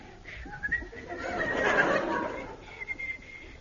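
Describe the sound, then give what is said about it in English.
A British explorer in a jungle clearing whistles a cheerful, bouncy merry tune: clear high notes open and close the passage, with a breathier, rougher stretch in the middle. No one speaks. “Kisses spirits up by whistling the merry tune.”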